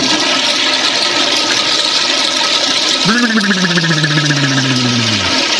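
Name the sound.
toilet flush sound effect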